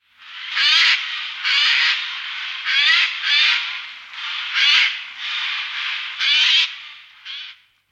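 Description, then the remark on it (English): A Eurasian jay gives a series of harsh, raspy shrieks, about nine in a row in quick irregular bursts, loud with no other sounds around. “When you hear a demented shriek anywhere near an oak tree, it's a jay.”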